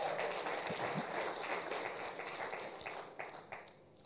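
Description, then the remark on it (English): An audience claps for the Lord in a dense, steady patter of hand claps that holds fairly loud for a few seconds, then thins out and fades near the end. “So when I give the Lord, you can give the Lord a clap.”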